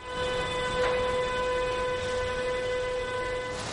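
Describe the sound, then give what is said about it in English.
A train's horn blares in one long, steady, droning note over a continuous low rumble of the train moving along the tracks, loud throughout with no voices. “Trains now travel between Germany and China 5 times a week.”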